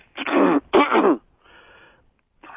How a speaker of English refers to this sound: So I'm having a little bit of problem of clearing my throat.